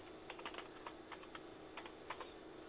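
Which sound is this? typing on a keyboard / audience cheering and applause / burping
typing on a keyboard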